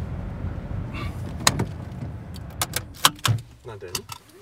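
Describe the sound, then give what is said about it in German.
Someone gets out of a car parked in a parking lot for hikers: a scatter of sharp clicks and rattles, a dull door thud, then a few more light knocks and jingles over a low outdoor hum. “Auf einem Parkplatz für Wanderer lassen wir das Auto stehen.”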